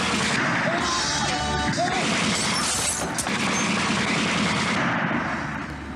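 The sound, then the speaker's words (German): Loud, dense gunfire crackles without pause for six seconds, rapid sharp shots piling into a harsh, continuous roar, with a few brief higher cries poking through early on. “Ja, ich glaube, wir haben einen Eindruck gekriegt, wenn ich jetzt sage, dieses Ballern, dieses Schreien, dieses tatsächlich sehr rohe Umgehen, wenn ich jetzt sage, das zeigt das Böse im Menschen in all der perversen Faszination”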